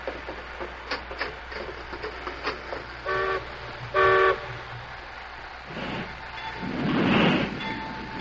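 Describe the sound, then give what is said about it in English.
Two short, loud train whistle blasts sound a second apart as a highball departure signal, followed by a swelling rush of steam-like hiss, with faint clanking and ticking in the background. “Well, there's the highball.”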